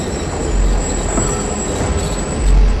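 A heavy train engine rumbles low and steady as its wheels start to turn, with a thin high metallic whine running through and a swell of deeper rumble toward the end.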